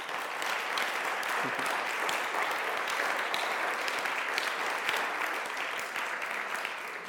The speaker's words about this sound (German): Und ich denke, wir können ihr von hier nach St. Gallen einen Applaus geben.